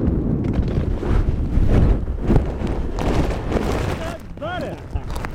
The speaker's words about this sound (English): But every hang glider must eventually come back to Earth. After they've been up for about 15 minutes, the glider descends towards the grass, touching the ground with the thump of the wheels.